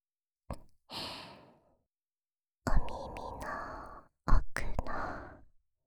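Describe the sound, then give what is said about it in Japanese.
Three long, airy, warm exhalations blown into the microphone toward the listener's ear, each a soft breathy rush with a sigh-like swell that fades out, separated by brief pauses and with no speech. “生温かい JK の吐息をずーっと感じさせてあげます。”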